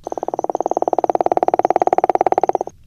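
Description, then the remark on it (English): A gopher frog's breeding call: a loud, creaking snore made of rapid, evenly spaced pulses running steadily for nearly three seconds before stopping abruptly, with no other sounds. “The call it makes sounds like the creaking of a door in a haunted house.”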